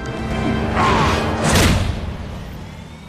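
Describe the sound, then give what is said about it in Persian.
A helicopter, ready for takeoff, drones steadily with a low engine rumble, while two loud whooshing bursts sweep past before the noise settles back to a continuous hum. “هلیکوپتر آماده پرواز سربرم.”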